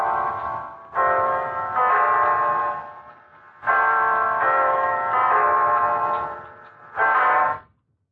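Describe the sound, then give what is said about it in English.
A clock bell strikes nine o'clock with a slow series of resonant, ringing strokes, each tone overlapping the fading hum of the last, then stops. No one speaks. “It's 9 o'clock, Mrs. Reeves. You have 3 hours to live.”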